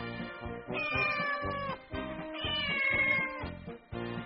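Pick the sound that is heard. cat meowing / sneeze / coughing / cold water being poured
cat meowing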